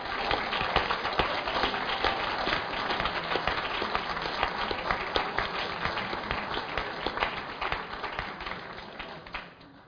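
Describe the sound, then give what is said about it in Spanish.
Sustained applause from an audience welcoming a female guest at a forum, dense overlapping claps at steady volume for several seconds before gradually thinning toward the end. “Vamos a darle un aplauso, por favor.”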